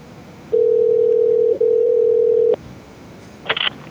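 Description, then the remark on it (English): A steady, mid-pitched telephone dial tone hums for about two seconds as a call is placed to a currency exchange, briefly interrupted once, then cuts off abruptly; a short, sharp burst of clicking follows a second later. No one speaks. “Let's call a currency exchange and just ask them what they would do in this scenario.”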